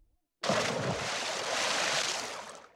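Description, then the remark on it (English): After a brief silence, a loud splash as Bagheera the panther and Baloo the bear plunge into a river, followed by a couple of seconds of rushing, churning water noise that stays strong before easing slightly. “Bagheera and Baloo jump into the river.”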